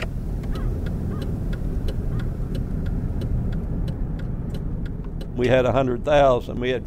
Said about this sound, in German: Autos? Ab und zu fährt eins vorbei. Menschen sieht man kaum.